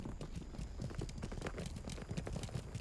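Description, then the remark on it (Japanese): Many small hooves of a flock of sheep returning patter and clatter over the ground in a steady, overlapping rhythm at moderate volume with a low rumble of background noise. “あ、羊たち戻ってきた。”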